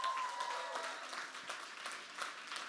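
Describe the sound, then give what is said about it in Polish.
A crowd applauds steadily for a guest, dense overlapping claps at moderate volume with no talking over them. “Ale wielkie brawa dla tego gościa.”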